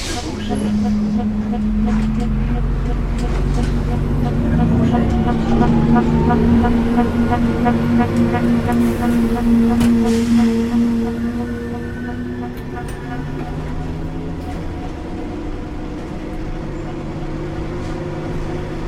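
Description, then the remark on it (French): Steady rumbling ride inside city bus 143 from Le Bourget, France, heading toward La Courneuve, the engine droning and rising in pitch as it accelerates, with faint indistinct voices and rattles mixed into the constant hum. “Je reprends le bus 143, direction la Courneuve.”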